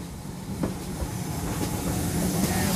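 A train rolls steadily past during a token exchange, a continuous rumbling roar with faint rhythmic clicks from the wheels and a light hiss over the top, with no voices.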